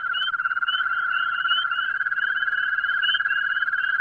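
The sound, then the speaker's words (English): A steady, high trilling chorus of common garden toads, many voices overlapping into one continuous warbling drone with a faint pulsing shimmer, loud, with no speech. “They're what's known as your common garden toad. You'd never expect something with so many warts could sing like this.”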